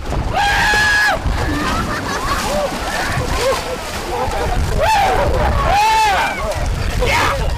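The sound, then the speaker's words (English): A group jumps into cold water on a windy day with loud splashing and sloshing, their high shrieks and yells rising in bursts at the start and again later, loud over a noisy crowd. “Now, the water was cold, they said, and the wind didn't help matters any.”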